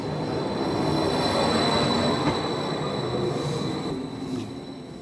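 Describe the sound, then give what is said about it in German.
A passenger train travelling from Italy into Switzerland rumbles steadily along the rails, a dense, continuous roar with thin high-pitched wheel squeal ringing above it, fairly loud throughout, with no voices. “Es könnte ja schliesslich funktionieren, unterzutauchen in der Masse von all den vielen anderen Leuten, die mit dem Zug von Italien in die Schweiz reisen.”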